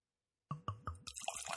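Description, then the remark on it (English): Beer glugs out of a bottle of 4.5-year-old Russian River Consecration into a glass with three quick, hollow gulps, then settles into a steady, fizzy pour with foaming hiss, fairly loud after a moment of silence. “Ooh, almost poured that out of there.”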